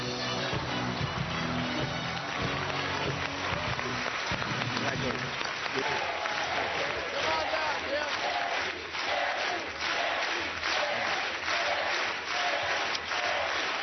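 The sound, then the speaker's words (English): A large studio crowd cheers and applauds loudly and continuously for Jerry Springer as he is eliminated from a competition in its seventh week, a dense wash of clapping and whoops that swells steadily with no pauses. “They're cheering your name, but I would expect that they're cheering a different Jerry Springer than they thought they knew 7 weeks ago.”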